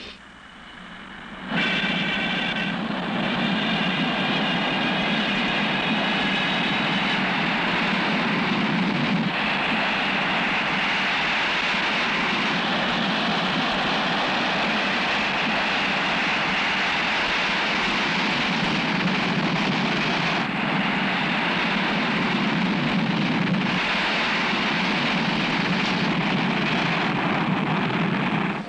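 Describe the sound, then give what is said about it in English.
A loud, steady roar of United Flight 210's airliner engines during the takeoff roll on runway 32 left at O'Hare surges in after a brief quiet start, with a high whining tone over the first few seconds and no voices. “O'Hare Tower, United Flight 210, off the ground at 305.”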